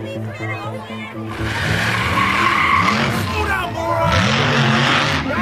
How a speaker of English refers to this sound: Pete's truck erupted into the festivities, blazing down the street.